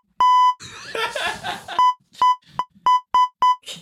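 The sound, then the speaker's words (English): A run of loud censor bleeps, one longer tone followed by six short, rapid beeps, with a burst of laughter and voices between the first and second bleep. “Just beep it.”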